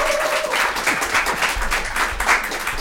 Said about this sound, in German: Ein Applaus